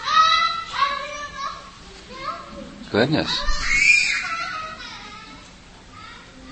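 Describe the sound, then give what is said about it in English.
A young child shrieks and wails in repeated high-pitched bursts, loud, with a sharp louder cry in the middle and an adult voice briefly speaking over it. “That child's been screaming since he was downstairs and came in the door.”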